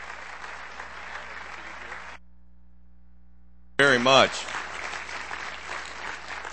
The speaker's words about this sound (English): this is our opportunity to sort of say thank you, so let's give him a round of applause as he comes. Thank you.